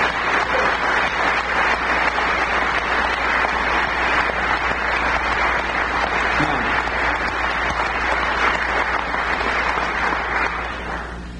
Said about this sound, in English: Now that you've clapped, I will say they are capable of it, but they don't know it today.